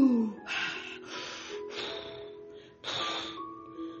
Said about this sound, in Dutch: Ze stonden alle vier naar adem te snakken. Ze wreven hun ogen uit en ademden diep in.